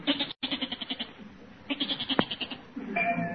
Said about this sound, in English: …, what happened to your voice? Holy smokes, a goat. … has got a goat in there.